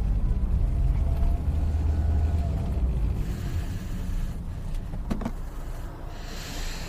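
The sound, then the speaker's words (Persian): A car's steady low engine rumble as Matin Daftari drives it along a highway, easing off as the car comes to a stop in front of a house, followed by a brief mechanical whir near the end. No one speaks. “اتوبان، متین دفتری سوار ماشینش رانندگی میکنه.”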